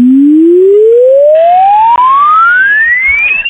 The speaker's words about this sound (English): Prepare now for exponential sine wave test suite.